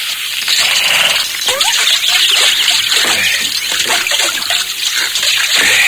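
splashing water

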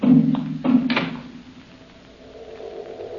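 door closing

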